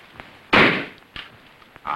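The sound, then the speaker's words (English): In a living room, a toy rifle fires and a balloon on a Christmas tree bursts with a single sharp, loud pop that quickly dies away, followed by a few softer clicks and knocks. “Nick aims a toy rifle at balloons on the Christmas tree”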